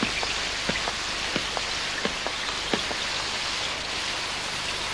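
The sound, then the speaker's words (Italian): Steady rain hisses across the whole clip, with scattered sharper drops tapping on a hard surface at irregular intervals. No voices, just the continuous wash of falling water. “Ricercati dalla polizia e per giunta sotto la pioggia.”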